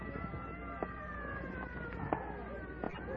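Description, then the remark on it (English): An ambulance siren wails steadily with a sustained, slowly shifting tone over a busy street rumble, with a few brief knocks and faint background voices. “Clear the way for the ambulance.”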